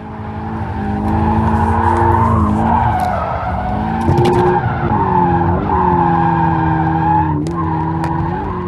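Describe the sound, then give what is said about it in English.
A real Toyota Scion race car, driven by expert drifter Yoshihara, drifts through a series of corners at very high speeds, its tires squealing loudly and continuously while the engine roars underneath, the screeching pitch wavering and sliding as the car skids for several seconds. “slide through a series of corners at very high speeds”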